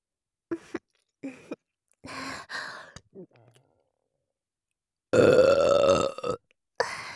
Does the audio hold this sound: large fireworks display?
no